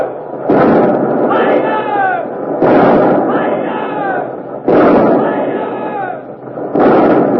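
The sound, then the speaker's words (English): Ship cannons of the Revenge fire a port broadside at the Armada, from 60-pounder, 30-, 18- and 9-pounder guns, in four loud, booming blasts about two seconds apart, each followed by a long rumbling roar, with shouting voices mixed into the din. “But the Revenge is bluffing, turning broadside, showing her port guns to the Armada, the 60-pounders, the 30s, the 18s, the 9s. You'll hear all of them in a moment.”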